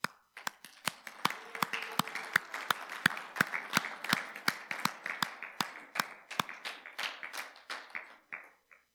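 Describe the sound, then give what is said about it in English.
An audience applauds the people seated beside them for about nine seconds, a dense wash of many hands clapping, with sharp, steady claps cutting through the crowd noise in a regular rhythm before it thins out at the end. “I want you to look at them again, and I want you to smile, and I want you to applaud them.”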